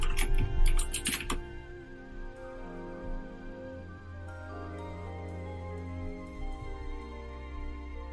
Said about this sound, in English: That was some loud typing